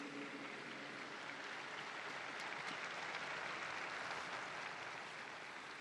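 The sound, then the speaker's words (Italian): Sustained applause from a large crowd for a newly beatified young Blessed, a dense, steady wash of clapping that holds at an even, loud level throughout without pause, with no voices rising above it. “Un applauso al nuovo giovane Beato Millennials.”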